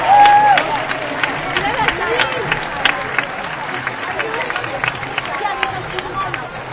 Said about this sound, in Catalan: i evidentment dels pregoners del Club Voleibol Sant Cugat, de les noies, del seu president, els que ens acompanyen aquí dalt i també els que estan aquí baix. Un fort aplaudiment.